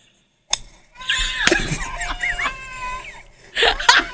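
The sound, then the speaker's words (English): A man in a video lets out pained, wailing screams that rise and fall in pitch, broken by a sharp crash and clinking like breaking glass, with a louder burst of noise near the end. “Then you just hear screaming.”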